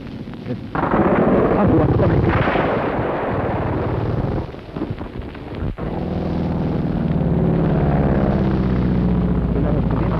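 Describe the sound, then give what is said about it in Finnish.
Loud bursts of machine-gun fire from two dark fighter planes flying low rattle over the heavy drone of their engines as they shoot at a military car on a road, with a brief lull before the engine roar and shooting surge again. “Ampuvat juuri meidän sotiautoamme kohti, jatkavat ammuntaa suokolla.”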